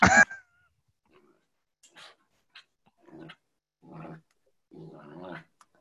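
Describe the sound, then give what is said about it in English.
A dog named Kenny Loggins lets out one sharp, loud bark, then follows with several short, rumbling growls spaced a second or so apart, with no one talking. “My dog's name is Kenny Loggins.”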